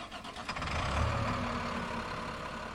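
The engine of a bucket truck from the Missoula Electric Co-op, with a crew of linemen, rumbles steadily at idle: a low droning hum with some clanking and hiss over it, with no voices.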